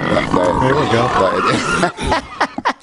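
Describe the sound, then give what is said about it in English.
Loud animal grunting and snorting runs almost continuously, with rough, throaty vocal sounds and a few sharp snuffles near the end, from three big heritage breed pigs being bathed at White Oak Farm. “Yeah, we got some movies, apparently, of the pigs playing around.”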